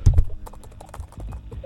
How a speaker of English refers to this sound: Oh, we're in. Just typing in.